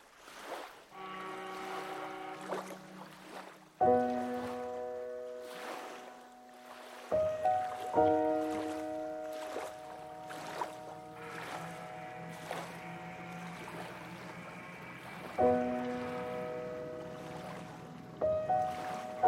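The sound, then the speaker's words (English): A ferry with two men aboard moves across the water through mist toward a dock, with washing, sloshing water and wind over a low engine rumble, broken by several loud, sustained tonal blasts that start abruptly. “There are two men on the boat. Yeah. Yeah, this one. You ready? Absolutely. Yeah. Wait for them to dock.”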